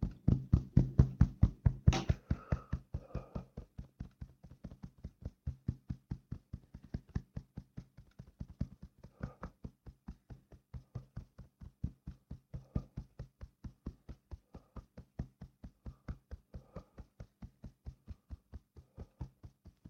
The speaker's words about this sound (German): Augenbewegungen auf und ab. Und klopfen.